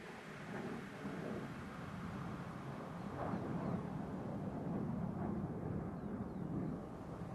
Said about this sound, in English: Overhead, far above, a passenger jet soars by.